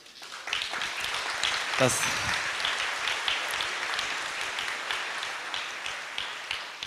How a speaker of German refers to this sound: Und ich würde sagen, wir geben denen, die nach vorne kamen, mal einen dicken Applaus.